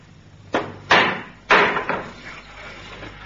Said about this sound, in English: What was that? Someone at the door. But no one comes here at this hour. It sounds like a child knocking.